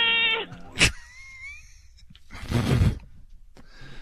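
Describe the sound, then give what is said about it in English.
A person's voice imitates the sound of a cat being skinned: a short strained yowl, a sharp rising squeal, and then a long breathy hiss, all fairly loud with no other talk. “What's the sound that cat makes when you pull the hair off from the back?”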